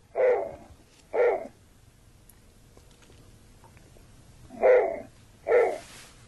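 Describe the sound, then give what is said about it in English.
A snowy owl gives four short, harsh barking calls in two pairs separated by a pause, each clear against quiet background noise, with no talking. “she's got all sorts of audio from different birds, and I know that she can let us hear what the snowy owl sounds like.”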